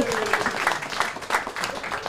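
A burst of audience applause, dense overlapping claps at a steady moderate level throughout, with a faint murmur of voices mixed in.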